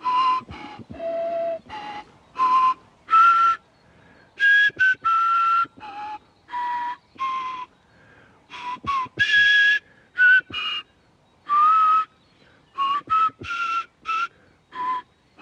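An experimental archaeologist plays a replica of an ancient five-hole flute made from a light, hollow griffon vulture bone, a halting tune of short breathy notes and phrases, its pitch stepping up and down with brief pauses between notes. No one speaks over it.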